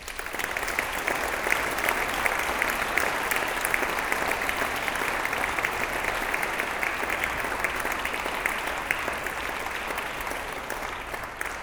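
Sustained, warm applause from a large audience in a church, dense steady clapping that carries on evenly for several seconds without any voices standing out.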